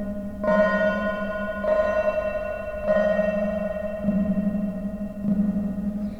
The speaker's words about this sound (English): We're going to go out and we're going to go into the delay. And go. Oh, so ambient-y. So reverb-y.